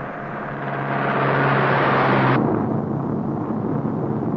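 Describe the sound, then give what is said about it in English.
A bus carrying desert commuters to work at the Blue Streak rocket test range rumbles along with a steady low engine drone and broad, loud road noise. Partway through, the sound abruptly dulls and the engine hum drops away while the rolling noise continues. “But for her, it's more than a bus ride away.”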